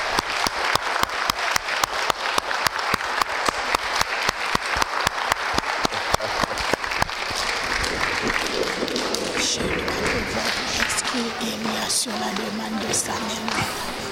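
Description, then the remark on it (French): An audience applauding a choir claps together in a steady, rhythmic beat for several seconds, then breaks into looser, continuous applause mixed with crowd chatter and a few raised voices. “Aujourd'hui, on va applaudir très fort notre chorale parce qu'elle a été formidable.”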